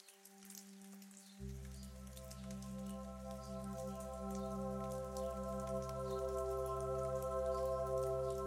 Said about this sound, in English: It's completely quiet, except for the distant patter of a few raindrops from a long-gone storm.